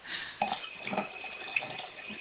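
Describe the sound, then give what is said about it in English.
Tap water runs steadily into a sink with a hissing wash, broken by a few clinks and splashes of dishes being washed, heard over a caller's phone line. No one speaks. “Caller from 954 is listening to us while doing the dishes.”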